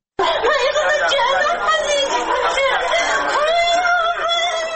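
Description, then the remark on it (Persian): A mother screams and wails in grief for her schoolgirl daughter, killed in the bombings near Sayed al-Shuhada school in Dasht-e-Barchi, west Kabul. Her cries are loud and unbroken for several seconds, rising and falling in shaky, sobbing cries with no spoken words. “بیشتر در این گزارش بشنوید که با فریاد مادری یکی از قربانیان آغاز می شود.”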